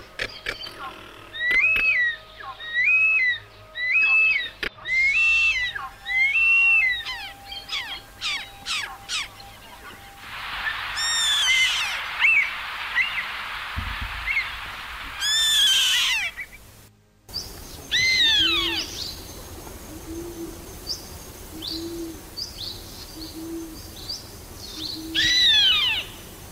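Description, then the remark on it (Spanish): Harsh, repeated cries of birds of prey along a road route, such as Andean condors, black-chested buzzard-eagles, cinereous harriers, variable hawks, crested caracaras and chimango caracaras, ring out in bursts, some rapid and chattering, others drawn-out screeches, with no one talking. “Sí, cóndores andinos y también podrá ver aves rapaces, águilas moras, gavilán ceniciento, aguilucho común, caranchos y chimangos.”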